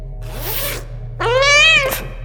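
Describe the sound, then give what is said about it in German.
Cats meowing: a softer, breathy cry comes first, then a loud, drawn-out meow rising and falling in pitch, over a steady low background hum. “Katzen? Die Geheimwaffe sind Katzen?”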